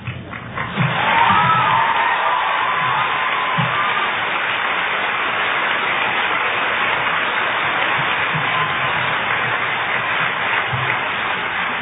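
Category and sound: crowd, audience clapping and cheering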